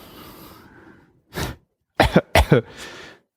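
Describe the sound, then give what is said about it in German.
A few harsh coughs: one single burst, then a quick double cough, trailing into a softer breathy one, after a moment of faint background noise. “Ich muss mal einmal gerade husten, sonst wird das hier unangenehm.”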